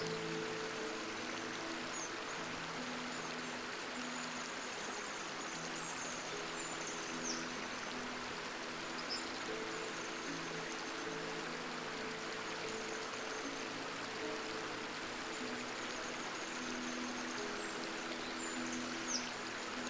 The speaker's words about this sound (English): Ahead of you is a stone underneath a beautiful oak tree. You sit on the stone and observe the stream.